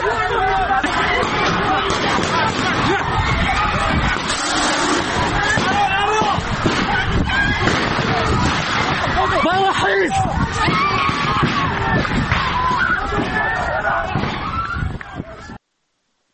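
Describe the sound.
A dense crowd commotion during a special forces raid on a student gathering inside the Kurdistan University of Medical Sciences on 7 Aban, with tear gas and shooting reported; many overlapping voices shout and clamor at a steady, loud level, broken by occasional sharper cries before it cuts off abruptly.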